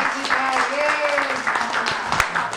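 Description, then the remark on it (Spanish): An audience applauds steadily for a few seconds to thank a guest, a dense crackle of many hands clapping at once, with some voices calling out over it. “Le damos un aplauso.”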